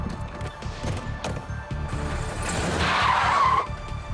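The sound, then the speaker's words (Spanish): A stolen car revs hard and tears off from a hotel parking lot with loud, screeching tires, the squeal rising and peaking near the end before cutting off, with no voices. “Se alejaron a toda velocidad.”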